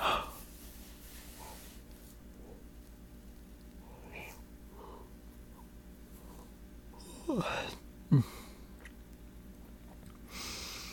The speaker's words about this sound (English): And yawn.